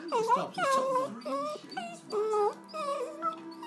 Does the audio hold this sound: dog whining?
yes